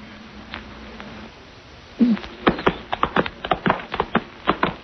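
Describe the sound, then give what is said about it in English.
Horse hooves clip-clop in a steady, slightly uneven rhythm of sharp knocks, clear, after a quiet stretch of low background hum, as a horse is ridden toward a creek on the way to Port Lancer. “Watch out your horse doesn't stumble.”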